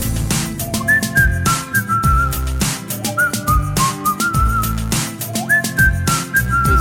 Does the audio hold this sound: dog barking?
no